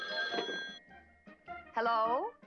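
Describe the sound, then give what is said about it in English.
A telephone bell rings in one bright, sustained burst near the start, followed by a pause and a short voiced sound; the ring is fairly loud. “can you get the phone for me?”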